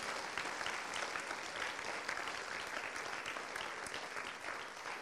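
A crowd applauds steadily, many hands clapping in a dense, continuous wash that holds at an even level for the whole stretch, with no voices standing out.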